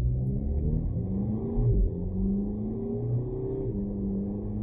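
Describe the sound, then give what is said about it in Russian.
A car engine roars loudly, its pitch climbing as it accelerates hard and shifts through gears, with no voices over the steady rumble. “Люблю, когда машина быстрая, относительно хотя бы.”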